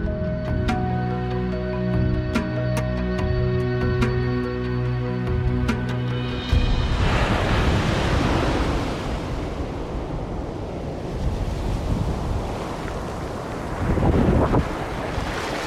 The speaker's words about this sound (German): Vor mir erstreckt sich eine tiefblaue, wogende, schier endlose Masse. Das Meer. Genauer, der Pazifik. Ich stehe hier am Strand von Los Angeles, beziehungsweise von Santa Monica.